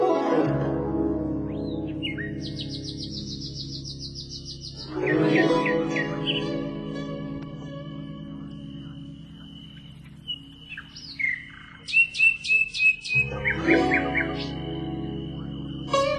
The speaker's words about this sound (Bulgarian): Господи, колко хубаво пее славеят!